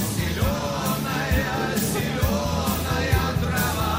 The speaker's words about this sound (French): Ils embarquent dans le bus qui les amène jusqu'au cosmodrome. Une foule est présente pour les encourager.